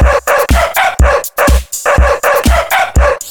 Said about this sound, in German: Hundi! Wow, wow! Hundi! Wow, wow! Der Hundi.